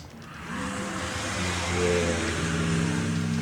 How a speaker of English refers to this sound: As a large dragon made of fire, and fire alone, appears in front of you. Holy shit. And roars with flames spewing out of its mouth.